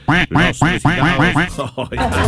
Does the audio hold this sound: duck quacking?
yes